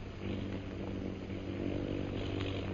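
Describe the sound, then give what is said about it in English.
The engines of airplanes dropping bombs drone steadily throughout, a continuous low, buzzing hum with layered tonal harmonics and an even loudness, with no voices. “Do you hear those planes, Bhutan?”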